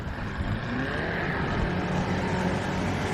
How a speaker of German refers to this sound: In einem wunderschönen kleinen Motorboot, fast ausschließlich aus Teakholz gebaut. What a pretty boat. Wow.